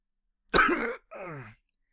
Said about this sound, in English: There was a spat of coughing.